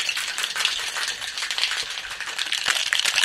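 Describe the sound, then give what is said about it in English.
A cocktail shaker holding ice, egg white and lemon is shaken hard to emulsify the ingredients, ice clattering and rattling inside in a fast, steady rhythm of bright metallic knocks that stays loud throughout, with no voices. “we're going to just shake it up really hard”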